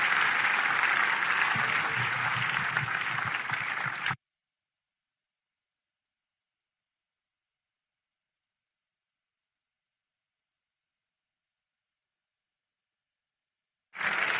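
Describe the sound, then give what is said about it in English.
A large crowd of worshippers claps in praise of God in a dense, steady burst of applause for about four seconds, then it cuts to a long silence before clapping briefly returns at the very end. “Don't you think God deserves a bigger clap?”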